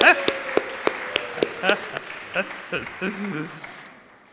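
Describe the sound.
A short round of clapping, with sharp, fairly regular claps rather than a dense roar of applause, under people talking and calling out. It fades out after a few seconds.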